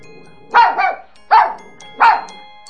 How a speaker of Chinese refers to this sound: 悠悠指了指坐在旁边的小狗狗，小狗狗汪汪汪地叫了叫。